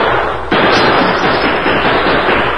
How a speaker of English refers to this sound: They were on all sides of the house, and each shot from within brought a quick response.